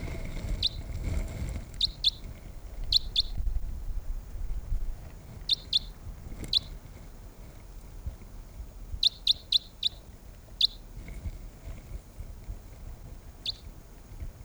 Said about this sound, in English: The wild birds are still calling softly nearby.